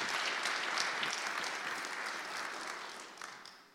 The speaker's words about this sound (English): So we blessed to have him in our program. So give him another round of applause for that.